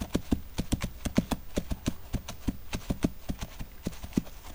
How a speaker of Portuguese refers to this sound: O burrinho tinha de seguir na frente com Maria e ir tateando com seus cascos para achar a melhor passagem. José subia atrás deles, pois a trilha era muito estreita.